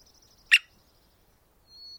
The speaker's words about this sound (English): recorded the drums and squeaks of this American three-toed woodpecker